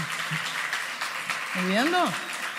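An audience applauds with a steady, dense wash of clapping throughout, and about halfway through a brief tonal whoop or glide rises and falls above the clapping.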